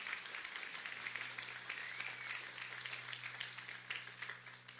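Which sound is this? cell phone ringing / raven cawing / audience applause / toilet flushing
audience applause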